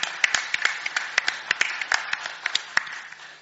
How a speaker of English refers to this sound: God, a great big clap, shall we? Thank you, Lord. Thank you.